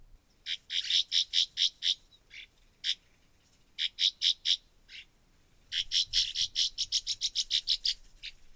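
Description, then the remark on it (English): A swallow's call: rapid runs of sharp, high chirps delivered in quick bursts with short pauses between, clear with no voices present. “This could add a new dimension to your canoe or kayak trips on our rivers to learn this little bird's call and see if you can figure out where they might be nesting.”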